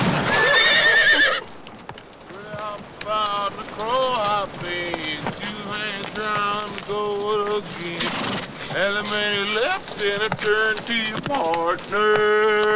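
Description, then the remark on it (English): A horse whinnies repeatedly in wavering, high-pitched neighs while hooves clip-clop steadily underneath, fairly loud, as a rider climbs onto it, after a brief burst of rushing noise at the start. “A grinning Charlie climbs on his horse.”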